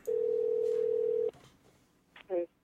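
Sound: skype call dialing tone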